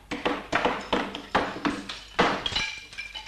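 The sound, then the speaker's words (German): Gramophone records are smashed one after another in the sound archive of a radio broadcasting house, all records connected with cigarettes or other tobacco products: about eight sharp, brittle cracks in a steady rhythm, each trailing into clattering, clinking shards, with a faint ringing at the end. “Hier werden zurzeit alle die Schallplatten zerbrochen, die irgendetwas mit Zigaretten oder sonstigen Tabakwaren zu tun haben.”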